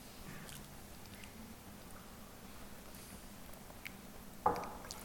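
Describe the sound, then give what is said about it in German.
Someone drinks water in quiet sips with soft wet mouth and swallowing noises, ending in a sharper clink or gulp near the end. No one speaks. “Apropos trinken.”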